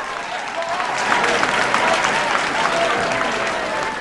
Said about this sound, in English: He throws his arms in the air in celebration, much to the crowd's delight. Sulking, Baron Saloka reluctantly applauds him.